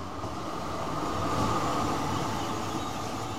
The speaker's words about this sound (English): So we take the tram to the Limaplatz and then the bus to the Helvetiaplatz.